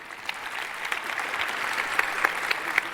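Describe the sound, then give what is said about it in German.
A crowd applauds with a steady wash of dense clapping, fairly even in loudness, with a few sharper individual claps standing out near the end. No one speaks. “Dafür einen Applaus.”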